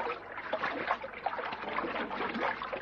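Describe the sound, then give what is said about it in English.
Water splashes and sloshes continuously around a person swimming, a busy, uneven churning, with no voices over the top. “Lovely in the water, isn't it?”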